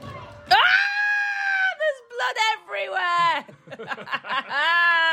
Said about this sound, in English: Whoosh, deep dive. Oh, everyone's screaming. Because you're a shark. Now I've deep dived. I'm swimming after them.